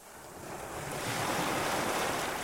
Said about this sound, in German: dass jede siebte Welle enorm stark ist, dann ist genau das dieses Faszinierende, dass es ab und zu mal so einen Aufreger gibt und dann gewöhnen wir uns langsam über die anderen Wellen und dann ist das tatsächlich etwas, was sehr, sehr entspannt ist.